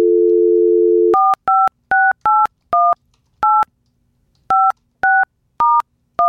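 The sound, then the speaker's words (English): A steady dial tone hums for about a second, then an 816 Kansas City phone number from an Eagles billboard is keyed in with crisp two-pitch touch-tone beeps, ten in quick uneven bursts with short pauses, clear with no talking. “And it just says, for a pep rally in your pocket, call this number, Kansas City.”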